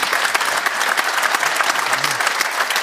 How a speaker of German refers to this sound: Da hinten sehen wir ihn. Grüße dich, Applaus für ihn aus München.